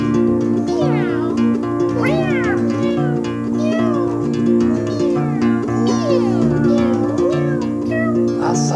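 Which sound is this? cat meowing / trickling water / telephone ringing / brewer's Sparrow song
cat meowing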